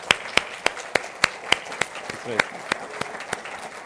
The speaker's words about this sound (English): This is our way of saying thank you. If we could, everyone, give a big round of applause for the moms.